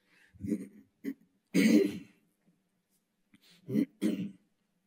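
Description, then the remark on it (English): Someone clears their throat several times, with rough, gravelly bursts broken by short pauses; the loudest, harshest one comes early on. No one speaks. “Excuse me while I clear my throat.”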